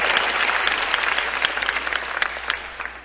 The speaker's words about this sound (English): About 15 people clapped on that one.